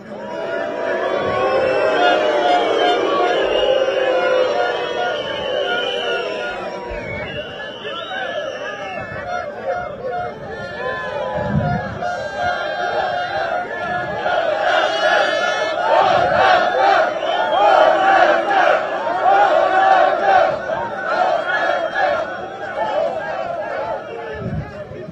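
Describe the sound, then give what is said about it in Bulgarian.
A large crowd of protesters shouts and yells continuously, many voices overlapping in a loud, rough roar that swells and surges, with occasional sharper cries rising above the din. “Колеги, ако смятате, че с викане ще постигнем някакъв резултат, давайте да викаме.”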